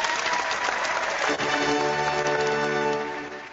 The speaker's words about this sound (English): We're not clapping because he's sick.